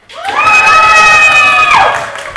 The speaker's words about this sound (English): Let's try again. I'm going to ask them to scream and shout and clap with a lot of noise.